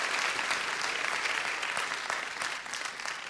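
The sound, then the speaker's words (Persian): A crowd applauds steadily, a dense patter of many hands clapping at a fairly even level for a few seconds, with no one speaking over it. “تشویقاتون خیلی ضعیفه، خداییش تشویق محکمتر.”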